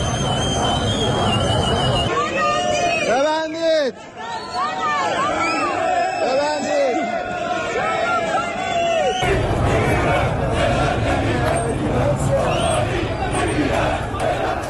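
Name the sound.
protest crowd chanting slogans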